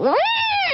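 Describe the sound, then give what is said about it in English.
A mother cat that gave birth to kittens three days earlier lets out a single drawn-out, distressed yowl at 5:30 a.m. in a family home, rising sharply then holding a wavering high pitch before dropping off, loud with no other sounds. “Jackie woke up and saw her cat, Renesmee, like panicking”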